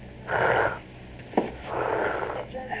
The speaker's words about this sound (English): Clear your throat like this. That's it. That's the way.